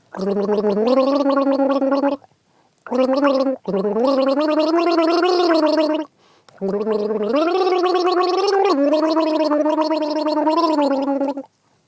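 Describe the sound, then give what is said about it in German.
A person gargles a tune, the bubbling voice rising and falling through a melody in four sustained phrases separated by short breaths, fairly loud with no other sounds. “Achtung, dran mit Gurgeln.”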